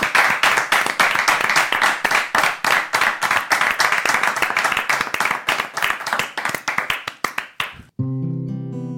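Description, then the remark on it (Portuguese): An audience applauds loudly for about eight seconds for a live music act being introduced, a dense, steady patter of many hands clapping that thins slightly before stopping, followed by the start of sustained musical tones. “Un fortísimo aplauso para a música en directo”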